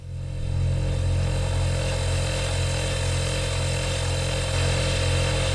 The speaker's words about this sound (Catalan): Això vindria a ser el motor d'un electrodomèstic com ara una nevera.